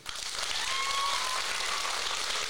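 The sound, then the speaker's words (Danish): An audience claps steadily to vote on which story it wants to hear, the loudest applause deciding. The clapping is a dense, loud burst that fills the whole clip, with a faint whistle-like tone briefly rising above it. “Det er højden på klappet, vi dømmer efter, ikke længe.”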